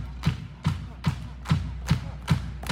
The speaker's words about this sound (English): So the way we're going to start this off is we're going to have all you guys get your hands together. Start clapping with this drum, all right?